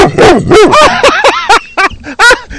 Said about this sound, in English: And hey, tell him that I'm not giving her any cues to bark. Listen, he's pushing a little pedal that barks.